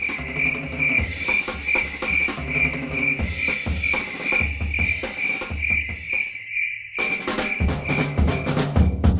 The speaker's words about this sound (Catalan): benvinguts una vegada més a esta cova de grills que com ja comença a fer caloreta, estan els grills una miqueta rebolicats